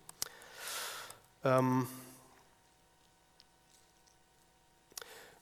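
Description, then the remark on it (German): A quick rustle of book pages being flipped, a soft papery swish, followed by a short vocal sound and a few faint clicks in otherwise quiet surroundings. “Also wenn ich hier mal jetzt anfange zu blättern, deswegen nicht hingucken, sonst wird es schwindelig.”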